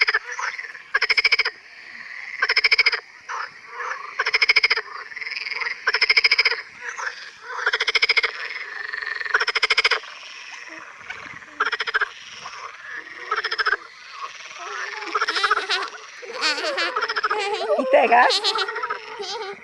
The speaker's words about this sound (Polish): Bardzo głośne wśród płazów są też żaby. Głos żaby śmieszki przypomina śmiech.